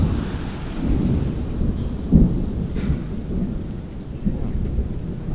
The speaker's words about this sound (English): Thunder sounds pretty cool.